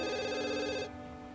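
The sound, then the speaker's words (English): A telephone with a call display rings once in a bright, steady electronic trill lasting under a second, then cuts off and leaves a faint lingering tail, with no voices. It rings unanswered in a city apartment bedroom on a cold winter's night. “When she ignores the phone, a young man awakens in her bed.”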